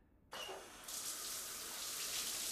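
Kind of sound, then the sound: household object, shower water running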